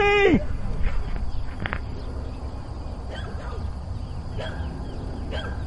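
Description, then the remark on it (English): A bird dog barks, sending out five or six sharp barks spaced about a second apart over a steady, rumbly outdoor background, with a brief whining call at the very start. “Oh, he's got a bird dog. Come on, listen, bird dogs.”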